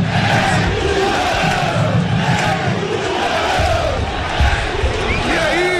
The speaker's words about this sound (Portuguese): E o torcedor reconhece, sente o grito da torcida do Londrina.